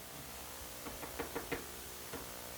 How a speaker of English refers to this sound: They're knocking at the door. Let me in, Noah. Let me in.